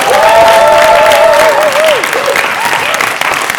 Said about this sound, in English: another round of applause for Mr.